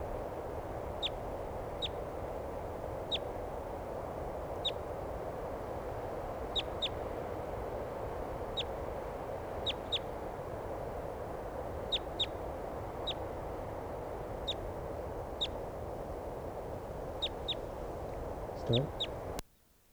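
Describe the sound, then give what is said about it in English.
A wild bird calls again and again with short, sharp, high chirps, often in quick pairs, repeating irregularly over a steady background hiss and low rumble. “Okay, here's another wild bird.”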